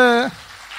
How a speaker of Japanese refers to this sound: はい、おめでとうございます。はい、おめでとうございます。もう一回大きな拍手。